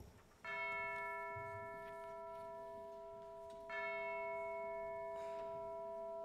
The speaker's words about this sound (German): Da schlug die schwere Glocke der Nachbarkirche Ding-Dong.